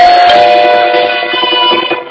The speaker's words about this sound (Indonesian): Sampai bel rumah berbunyi. Pasti keluargaku sudah pulang.